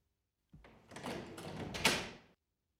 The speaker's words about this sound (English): Open the door.